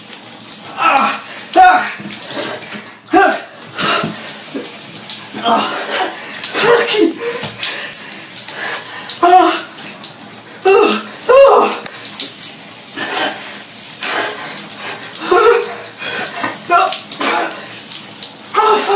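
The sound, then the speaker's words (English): Shower water runs steadily in a constant splashing hiss as a person takes a warm shower and then switches to cold water, gasping, groaning and making wordless vocal sounds over it throughout. “Enjoying a lovely shower. Nice and warm.”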